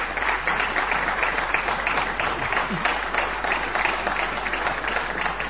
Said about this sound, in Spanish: Bueno, después lo podremos aplaudir.